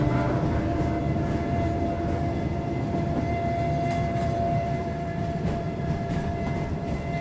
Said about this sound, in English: he's no longer riding a streetcar. He's on a train. How did that happen? They emerge from the tunnel.